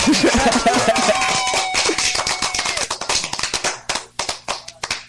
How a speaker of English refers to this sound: All right, let me give you the clap, man. I'm going to give you the clap because they get mad at me.